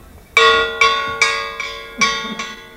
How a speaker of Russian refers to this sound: Давай звон!